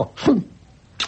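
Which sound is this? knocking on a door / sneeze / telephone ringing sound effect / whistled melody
sneeze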